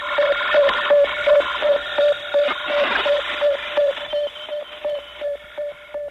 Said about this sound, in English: In the last months of 1957, for example, we heard the beeps of Sputnik 1, the sound of our first small footsteps towards the distant worlds.